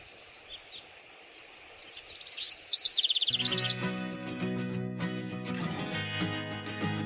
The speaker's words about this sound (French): Ah, ça y est, il fait beau même. Ouais, après la pluie. Les oiseaux chantent.